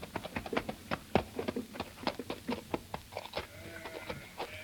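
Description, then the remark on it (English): A horse-drawn coach clatters along in the district of Arbois with rapid, uneven hoof knocks and wooden rattling, then jolts to an abrupt halt near a herd of sheep as a high squeal and faint bleating rise near the end. No one speaks. “Their coach comes to an abrupt halt near a herd of sheep.”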